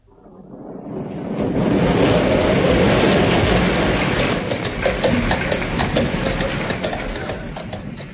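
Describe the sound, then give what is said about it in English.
A heavy storm in the Dolomites mountains: a downpour swells in within the first second and roars on steadily, with a deep rumble of thunder underneath, loud, no voices. “It was the worst storm they'd ever known in the Dolomites.”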